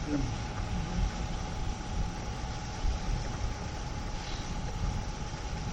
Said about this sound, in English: So it's not, this is just a sound device. That's all, right. It's a vacuum machine. It's a vacuum machine.